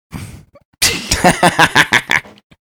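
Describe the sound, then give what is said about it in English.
A chair creaks with a low, raspy, fart-like sound, first briefly and then in a louder rhythmic run of about eight pulsing bursts lasting over a second. “Did you fart? Messes. Was that no, your chair? No, it was the chair.”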